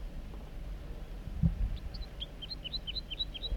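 A wild male bird sings from the top of a big dead snag on a hilltop: a steady run of quick, high chirping notes, repeated about ten times in an even rhythm, fairly faint over a low rumbling background after a brief thump.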